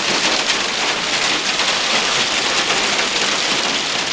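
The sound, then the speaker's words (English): Large hailstones pound down on the town of Whitney in a dense, unbroken roar of tiny impacts, loud, with a steady hiss throughout and no voices. “Elsewhere, the formation was also captured over a sailing club in the west of the county, while large hailstones pummeled the town of Whitney.”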